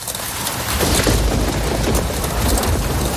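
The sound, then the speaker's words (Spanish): Steady, heavy rain hisses throughout over Seville, Spain, while a deep rolling rumble of thunder swells beneath it, loud, with no voices present. “El 21 de diciembre de 1983, llovía y tronaba sobre Sevilla lo más grande.”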